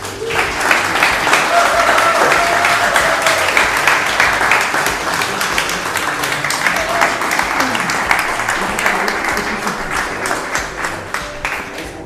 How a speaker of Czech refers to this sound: Výborně. Díky moc krát a prosím potlesk